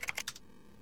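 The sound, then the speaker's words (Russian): Four quick clicks of computer keyboard keys being pressed in a rapid burst, then silence for the rest of the moment. “Нажатие клавиши Tab перемещает к следующей ссылке на странице или к следующему полю формы.”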